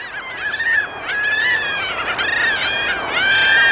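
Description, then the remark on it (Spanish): Plaintive, drawn-out calls of a gray gull (garuma) repeat in a steady series, each a harmonic, slightly wavering cry, loud, with no talking. “Este lastimero canto es el de la gaviota garuma.”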